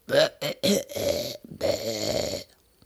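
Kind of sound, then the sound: human body sound, loud burp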